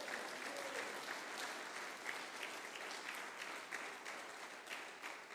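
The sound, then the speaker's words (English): An audience applauds God during a morning church service, a steady, dense wash of many hands clapping at once that holds an even loudness throughout without pausing. “If you believe that, give God a good applaud here this morning.”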